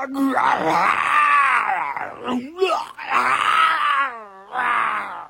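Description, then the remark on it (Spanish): A voice imitates a lion caught in a hunter's trap, roaring: three long, loud, strained growling cries with rising and falling pitch and short breaks between them. “Al no lograr liberarse, el león empezó a rugir a viva voz.”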